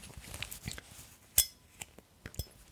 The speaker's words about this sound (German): Ich hätte gern so ein klirrendes Geräusch, das man angestoßen hat. Aber ich habe nichts an anderem Glas hier. Oh, damit.